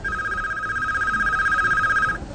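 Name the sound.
telephone bell ringing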